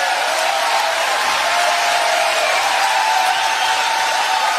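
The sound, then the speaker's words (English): Steady crowd applause at a rally for a Senate candidate in Michigan, a dense, continuous wash of clapping and cheering that holds at an even, fairly loud level throughout, with no individual voices standing out. “I don't want to censor the applause either.”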